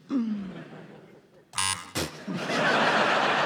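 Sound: quiz buzzer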